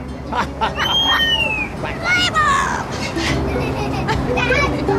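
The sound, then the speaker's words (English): A pet bird says "play ball" in a squawky, parrot-like voice imitating human speech, over a steady background of children's chatter and crowd babble from kids gathered around its cage. “that was Sparkle saying play ball”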